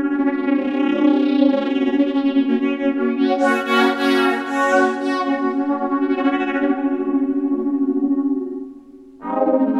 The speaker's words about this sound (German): Schräger kann es auch. Der Ringmodulator.